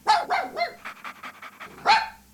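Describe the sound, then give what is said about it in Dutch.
A dog barks three times in quick succession, then gives a run of softer, rapid yips before one final loud bark, with no talking. “Als u denkt aan uitlaten, denkt u dan aan een viervoeter?”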